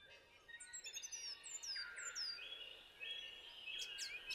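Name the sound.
song thrush singing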